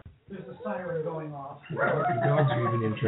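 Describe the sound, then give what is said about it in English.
Dogs bark and howl in a loud, continuous chorus of yelping, wavering cries, reacting to a siren going off, its steady wail joining in and growing louder over the second half. “There's a siren going off. Dogs are even interested in this.”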